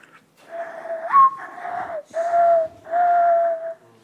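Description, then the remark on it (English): A breathy, low whistle made with both hands cupped around the mouth imitates a mourning dove: an opening note that swoops upward, then three long, steady cooing tones separated by brief pauses, with no one talking. “Morning dove. Yes. Yeah. What is going on? That was a very good impression.”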